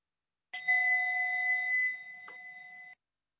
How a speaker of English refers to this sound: Okay, so we'll begin the body scan with one invitation of the bell.